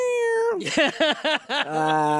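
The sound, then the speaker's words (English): A cat on a couch meows in a quick run of four or five short, rising-and-falling cries, framed by a longer drawn-out yowl at the start and end, fairly loud with no talking. “Show the cats on the couch.”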